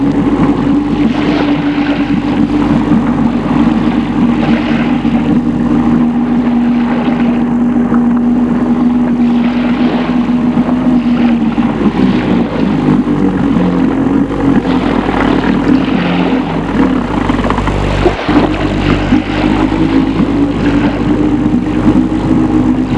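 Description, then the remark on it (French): A boat motor drones steadily and loudly on a calm sea under a blue sky, run because there is not enough wind, a continuous low engine hum with slight pitch shifts, heard alone without any voices. “Comme il n'y a pas assez de vent, ils ont mis le moteur.”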